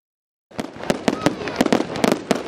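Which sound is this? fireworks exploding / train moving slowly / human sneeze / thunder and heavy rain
fireworks exploding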